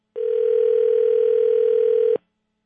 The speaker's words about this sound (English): Should I talk over the dial tone?